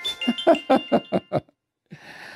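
A mobile phone ringtone plays a quick run of about seven bright, evenly spaced melodic notes, then breaks off into a short pause before a burst of hissy noise; an incoming call on the speaker's phone during a radio broadcast.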